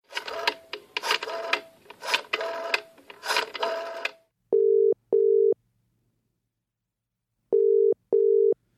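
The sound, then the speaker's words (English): An old-fashioned telephone ringing tone sounds in two clear double bursts, ring-ring, a pause, then ring-ring again, following a few seconds of busy mechanical clattering, as an outgoing phone call is placed. “let's make one last phone call before we skedaddle.”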